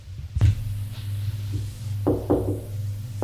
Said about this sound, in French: On a frappé à la porte.